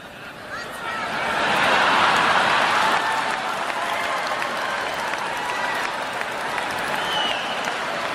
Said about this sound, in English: Namashii got obviously big applause there